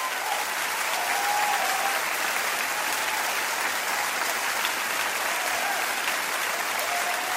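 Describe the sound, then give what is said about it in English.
A crowd applauds steadily and loudly for several seconds, a dense, continuous wash of clapping from many hands with a few faint whistles cutting through. “Would you please give a big round of applause”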